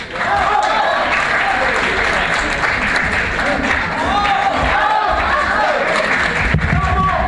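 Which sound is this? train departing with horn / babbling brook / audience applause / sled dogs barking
audience applause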